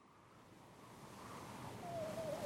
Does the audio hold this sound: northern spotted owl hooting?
no